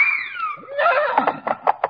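animal, horses neighing

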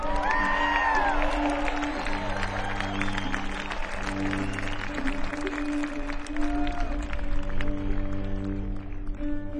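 crowd, audience cheering and applauding

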